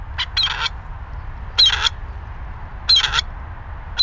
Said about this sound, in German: Und das machen wir uns zunutze. Das heißt, wir haben einen Lautsprecher dabei, eine Klangattrappe. Und da spielen wir diesen Ruf von einem Rebhahn ab und versuchen so, einen Eindringling in dieses Rebhuhnrevier zu imitieren.